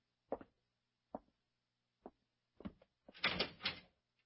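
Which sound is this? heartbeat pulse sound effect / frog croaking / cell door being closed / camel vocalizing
cell door being closed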